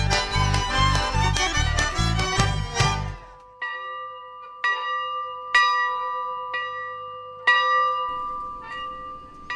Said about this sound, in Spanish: Hoy en la iglesia San Nicolás del paraje Las Tunas, en la colonia Apóstoles, cuyas campanas precisamente estamos escuchando, aún se celebra la liturgia en rito bizantino ucraniano